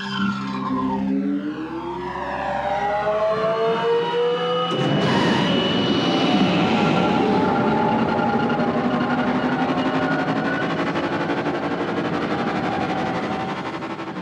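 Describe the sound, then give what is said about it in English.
Anakin's sci-fi pod racer engine, its sound based on recordings of Porsches, screams past, its high whining pitch sweeping downward before a sudden loud, gritty roar takes over and holds steady, with no voices present. “Matt Wood talks about recording Porsches for the sound of Anakin's pod racer.”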